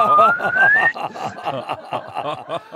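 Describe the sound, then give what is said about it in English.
A thin whistle imitating Pinocchio's growing nose slides steadily upward in pitch for just under a second, while several people snicker and laugh throughout and keep laughing after it stops. “What I'm going to do is imitate Pinocchio with a whistle sound.”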